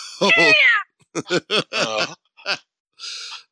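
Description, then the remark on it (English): A high-pitched, whistling cough: one long squealing burst that slides downward, then a string of short, choppy squeaky coughs and a final breathy rasp, with no talking. “And it's a weird thing when I cough. I have like I sound like a fucking velociraptor.”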